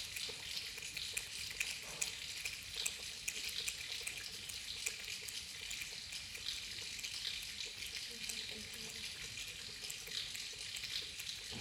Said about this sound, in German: Ich höre, wie der Regen auf das Dach über mir prasselt. An den Wänden neben mir heruntertröpfelt, links aus der Regenrinne über den Boden rauscht, während es noch weiter links heller klatscht.